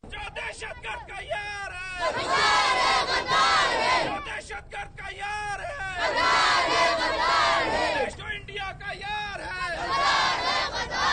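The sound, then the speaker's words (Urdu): A loud crowd of protesters, children, chants slogans in unison outdoors outside the Quetta Press Club in Quetta, protesting the militant attack on Charsadda University, in a demonstration organized by the Pakistan Peoples Party Quetta. The chanting rises in repeated rhythmic bursts with short pauses between, voices massed together. “Quetta press club کے باہر ہونے والے مظاہرے کے شرکا نے یہ نعرے لگائے.”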